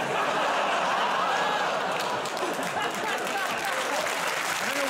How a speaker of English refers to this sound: I don't know what you're applauding.